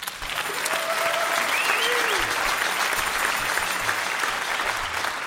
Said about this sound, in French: Et cette pièce, c'est une pièce composée par Grégoire Letouvet, qu'on va vous jouer maintenant, qui est aussi dans la salle, vous pouvez l'applaudir.